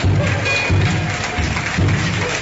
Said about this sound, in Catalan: El tabal és l'ànima de la festa. El seu so greu i constant marca el ritme i anuncia cada moment.